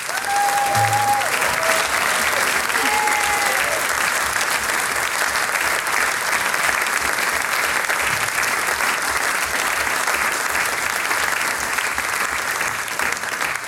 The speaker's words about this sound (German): Großen Applaus für die ….